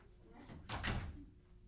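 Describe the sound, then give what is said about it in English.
Two quick, muffled knocks on a door, close together and fairly faint, with quiet background before and after and no one talking. “I think there is a knock.”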